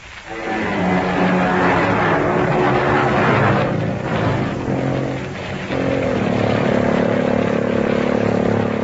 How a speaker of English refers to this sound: The train rolls in. It seems massive after the subway trains of Boston, New York, and Philadelphia.